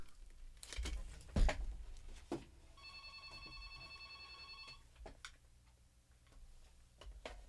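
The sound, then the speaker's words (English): A mobile phone rings with a steady electronic tone lasting about two seconds, surrounded by scattered clicks and handling taps. It's fairly quiet and nobody speaks. “Hold on, I have to turn my phone off.”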